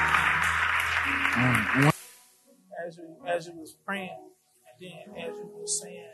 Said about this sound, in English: Amen. Thank you. Come on, let's give God a great hand clap.